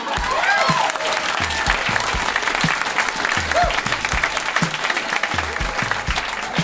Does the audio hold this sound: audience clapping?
yes